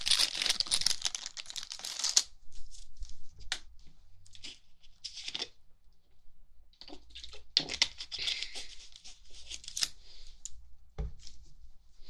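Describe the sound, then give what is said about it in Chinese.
Someone puts on a clean white lab coat: crisp fabric rustles and crinkles in two longer bursts with scattered soft rubs and a small knock between them, and no voices. “让我穿下这个干净的白大褂。”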